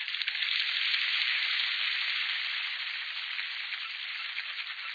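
Coots running across the water surface to take off, a steady rushing patter of slapping lobed toes and flapping wingbeats that holds loud and continuous before easing slightly toward the end. No voices.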